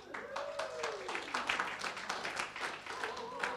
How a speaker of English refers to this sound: You don't know why you're clapping, do you?